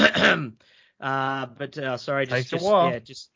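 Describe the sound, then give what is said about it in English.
A person clears their throat: a short raspy burst, a brief pause, then several longer voiced, throaty rumbles and hums. “just clearing my throat a little bit there.”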